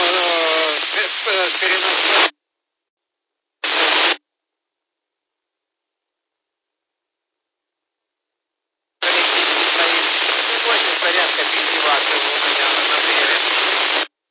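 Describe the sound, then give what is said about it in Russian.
Harsh, band-limited radio static on an amateur radio transceiver crackles in loud bursts, with muffled, garbled transmissions buried in the noise, cutting out abruptly into silence before returning for a long sustained stretch. “И помехи большие.”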